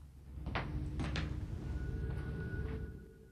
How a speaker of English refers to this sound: comes home and locks the door behind him.